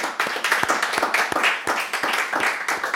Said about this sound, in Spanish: Y vamos a dar palmas al Señor por eso.